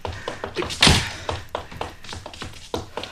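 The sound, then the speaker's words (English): One loud, sharp crack stands out amid a scattering of lighter knocks and thunks as someone shoots a gun at cans set along a fence, without any talking. “Shooting cans off the fence.”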